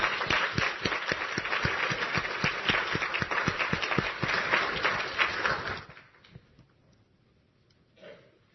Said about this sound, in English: And may God bless your choir. And we should give them another hand of applause, please.